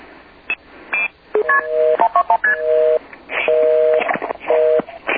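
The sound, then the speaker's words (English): A rapid sequence of dual-pitch multi-frequency (MF) telephone signaling tones, including MF tone 2426, short beeps mixed with several longer held tones, interrupted by clicks over a hissy phone line. “MF tone 2426?”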